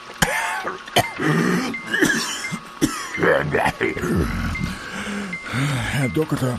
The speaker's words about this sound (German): Herr Doktor, ich flehe Sie an. Helfen Sie mir gegen diesen furchtbaren Husten.